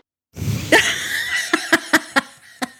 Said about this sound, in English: Cough.